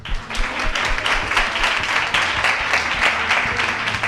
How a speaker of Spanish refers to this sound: Ven, un aplauso.